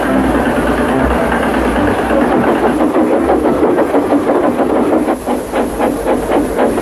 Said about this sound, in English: Autumn had come to the island of Sodor. The fields were changing from yellow stubble to brown earth. And a tractor was hard at work as Thomas puffed along.